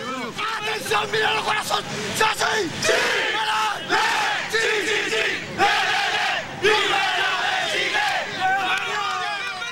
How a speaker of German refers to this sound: Im Campo Esperanza, im Camp der Hoffnung, in dem die Familienangehörigen ausharren, bricht Jubel aus.